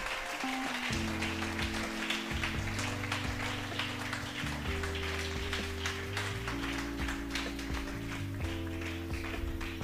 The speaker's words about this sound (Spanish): Dele fuerte, fuerte ese aplauso. Dele fuerte, fuerte ese aplauso al Señor.